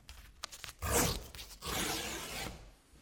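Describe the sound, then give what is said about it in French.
Excess paper is torn from the margins of a print to leave proper margins: a few small crinkles, then two drawn-out ripping tears, the second longer and steadier. No voices. “J'enlève l'excès de papier pour avoir des marges appropriées.”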